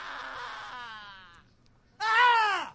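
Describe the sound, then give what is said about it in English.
A drawn-out, wavering scream fades away, then after a short pause a second, louder cry rises and falls sharply: a man and his friends screaming as a hello, with no talking. “Because he's trying to communicate to someone, and then suddenly his friends come in who also speak scream.”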